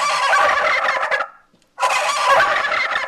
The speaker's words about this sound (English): They got a Godzilla car horn, and then just in time for the Thanksgiving holiday, they also have a turkey car horn.